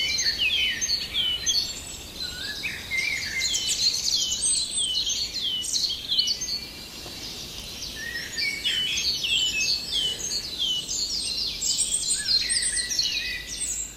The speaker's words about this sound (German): hören jetzt vor allem das wunderbare Flöten der Amsel